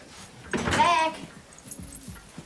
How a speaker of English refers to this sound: She comes through the front door.